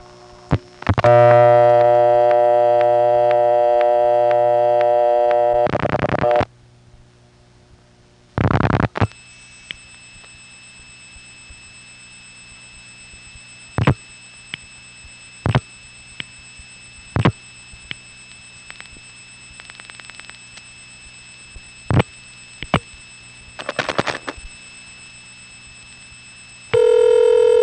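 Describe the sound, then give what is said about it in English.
A telephone line: a buzzy tone for several seconds, then a burst and a steady high tone punctuated by a series of sharp clicks and short bursts as the last six digits of a vacant number on the 365 prefix are dialed over N3 carrier to an ESS office and the call connects. “On this example, I dial only the last 6 digits of the phone number because the initial 3 is absorbed and unnecessary.”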